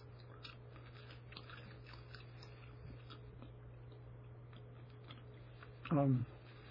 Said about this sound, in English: I'm chewing some gum for my teeth. Xylitol.